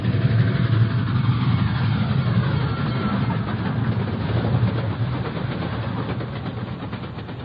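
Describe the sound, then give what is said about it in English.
A heavy approaching train roars along the tracks, a continuous loud rumble with deep low-end weight that holds steady before easing off slightly at the end. No voices. “Then, dimly, I can make out an approaching roar. Another train heading right for me.”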